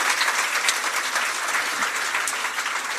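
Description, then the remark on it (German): Steady applause from an audience, a dense wash of many clapping hands at an even, loud level throughout, with no talking. “Applaus für euch.”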